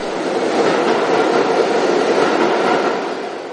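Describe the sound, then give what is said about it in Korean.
A subway train rumbles steadily through the WTC Cortlandt station at the World Trade Center in New York, a loud, sustained roar of rolling wheels and rattling cars that holds constant before easing slightly at the end, with no voices. “17년 만에 다시 열차가 들어오게 된 세계 무역센터 지하철역.”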